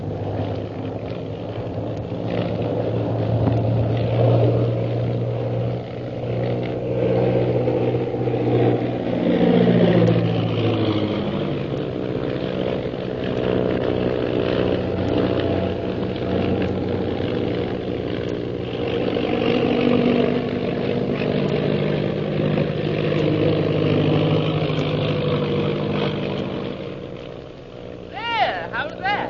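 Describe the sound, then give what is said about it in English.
An airplane engine roars steadily in flight on the way to Shanghai, a loud, continuous drone whose pitch sweeps and dips briefly partway through before settling back into an even hum. “I don't know that coming up in this plane with you was such a good idea.”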